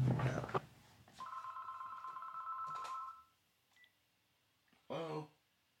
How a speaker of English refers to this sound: Oh, sorry. Your phone's ringing.